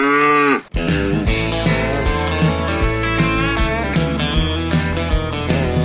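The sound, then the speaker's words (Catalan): A single loud cow moo lasts under a second, then cuts off sharply as lively country music with a steady beat and bright instruments begins on the radio show Music City. “És tan country que se'n suma la vaca.”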